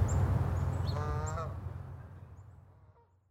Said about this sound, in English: We went back out to Sapsucker Woods to listen to the birds, then back to our hotel.